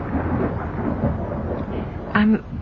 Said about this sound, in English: I'm sorry. I was distracted for a moment. It must have been the thunder. It worries you? Not in the least.